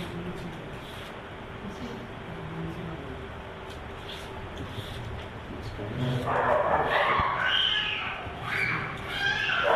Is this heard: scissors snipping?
no